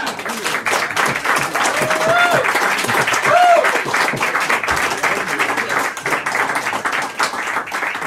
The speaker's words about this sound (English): That's an impressive applause for you